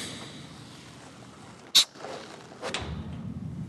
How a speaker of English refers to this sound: Just listen as Dowd opens the door.